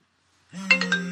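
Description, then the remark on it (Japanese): A phone ringtone for an incoming call starts abruptly after a short silence during a radio broadcast, with sustained tonal notes and a few rhythmic chime-like pulses, loud, no voices present. “あら、着信お知らせが。”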